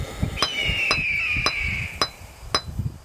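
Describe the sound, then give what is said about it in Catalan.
A hammer chips at a stone being readied for a burial, in five sharp, evenly spaced metallic strikes, each ringing briefly, with a sustained high whine between blows and low rumbling underneath. No one speaks. “Apa, vinga, no treguis pit i deixa'm picar-m'hi una mica, que hem de tenir a punt la pedra per l'enterrament.”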